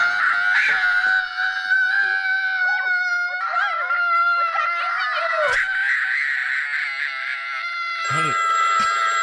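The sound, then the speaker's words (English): A child screams shrilly and without pause for about nine seconds, a loud, piercing ringtone whose pitch wavers and warbles, with a brief electronic-sounding change near the end. “Here's a horrible kid scream.”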